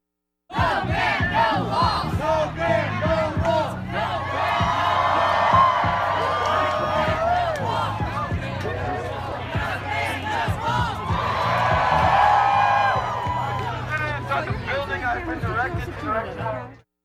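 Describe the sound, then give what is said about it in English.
A large crowd of roughly 1,000 protesters assembled at the Showers Building in Bloomington, protesting the ban, chants and cheers in unison, loud and sustained, with rhythmic shouted phrases rising in waves and overlapping voices filling the space. “This is audio that was recorded of the group assembled at the Showers Building.”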